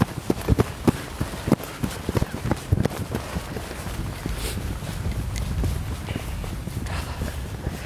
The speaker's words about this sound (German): wir müssen rennen jetzt.